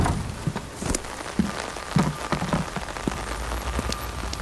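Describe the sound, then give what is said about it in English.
Steady rain patters down in a dense, continuous hiss, with scattered sharper drips and taps standing out at irregular moments. No voices are heard. “Because it's too wet of a day for you to be going door to door.”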